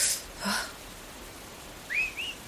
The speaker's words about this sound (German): hast du den Pfiff gehört? Na und? Ach, da wird wohl irgendjemand seinen Hund Gassi führen.